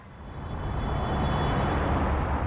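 A steady, dense roar of traffic on a freeway ringing Johannesburg, a broad rumbling wash that swells slightly as cars rush by at speed, many faster than the 100 km/h limit, with no voices heard.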